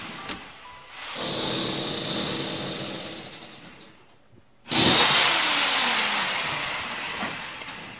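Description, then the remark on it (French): A power drill bores a hole into a wall to pass a network cable from the modem between the upstairs floor and the ground floor, in two long, loud runs, its steady high whine and grinding rasp separated by a brief pause before starting up again. “Des trous. Je fais un trou pour passer un câble réseau.”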